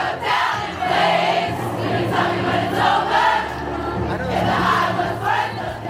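A huge crowd of fans who didn't get concert tickets sings along together outside the stadium in a loud, continuous roar of many voices, swelling and dipping in rhythmic waves with a low, steady hum underneath.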